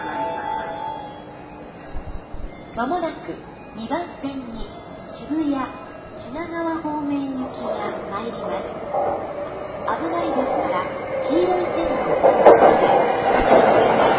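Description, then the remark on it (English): A train rumbles past on another track, not the train being waited for, a steady mechanical roar with rhythmic clacking that builds louder toward the end, while a person talks over it. “That's not our train, that's on another track, but our train is coming on this one.”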